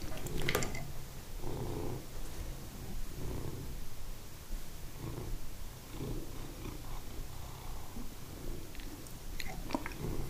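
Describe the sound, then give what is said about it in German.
A cat purrs steadily, a low rhythmic rumble pulsing on and off for several seconds, with a few soft rustles and clicks near the start and end. “Der kann schnurren.”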